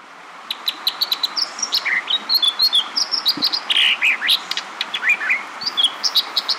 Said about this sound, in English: This brilliant song, ringing out over a rapidly rushing western stream, belongs to an American dipper. A songbird the color of wet gray stones, the dipper looks like a large chubby wren, or perhaps a gray robin with a very short tail.